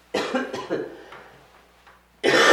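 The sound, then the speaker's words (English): A raspy bout of coughing and throat clearing in several quick bursts that fade off, then a loud, harsh burst of noise at the end. No one speaks. “I'm sorry, I did take a cough drop here.”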